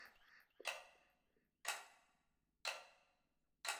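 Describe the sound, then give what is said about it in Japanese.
A clock ticks slowly and steadily, four crisp ticks about one second apart, each fairly loud with a brief ringing tail, heard alone. “この時計の音を聞きながら、今度は体の力を抜いていくの。”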